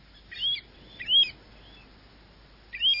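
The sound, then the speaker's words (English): Three clear, whistled bird calls ring out, each a quick slurred rising-and-falling note, spaced apart over faint background hiss; the calls of a Pacific golden plover, with no voices. “Birds like the Pacific golden plover we're hearing now.”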